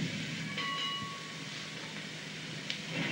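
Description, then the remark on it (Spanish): A tram rumbles steadily while a couple of bright, almost musical metallic clanks ring out over the rolling noise, with a faint ringing tone lingering between them. “Y contrastando con las metralletas, el golpe casi musical del tranvía.”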